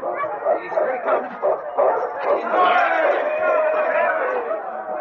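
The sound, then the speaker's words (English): A noisy crowd cheers and shouts continuously at the finish of a sled dog race as the lead dog King, a Malamute, crosses the finish line, mixed with repeated dog barks and yips that are most prominent in the first half. “The crowd pressed close as King crossed the finish line.”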